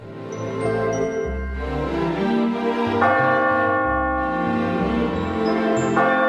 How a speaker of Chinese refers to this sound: 王子听到钟声似乎是从左边传来的，就朝左边走去。